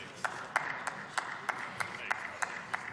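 A single person clapping in a steady, even rhythm, about ten sharp, crisp claps over a low background hum.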